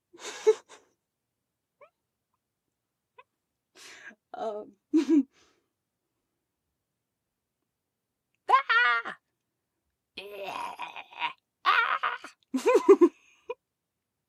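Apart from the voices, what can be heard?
goat bleating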